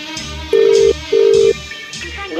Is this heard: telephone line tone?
yes